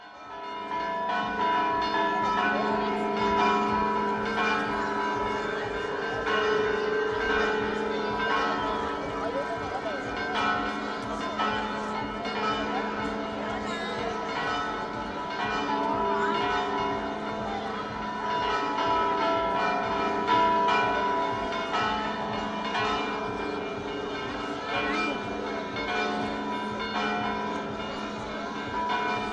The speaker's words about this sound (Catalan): les campanes de la parròquia que han sonat de valent en aquest corpus, tant en la vigília com també ahir abans de la celebració de la processó del corpus.